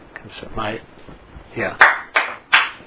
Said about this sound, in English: So Srivas Thakur clapped his hands loudly 3 times.